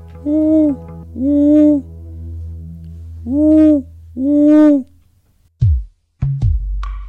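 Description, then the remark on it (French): An owl hoots four times in two evenly spaced pairs, each call full and fairly loud over a steady low hum, followed by a few abrupt thumps near the end. “Moi, je suis un hibou.”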